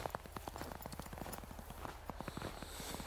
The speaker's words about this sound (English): and yeah, the dog's in her element. Here she comes.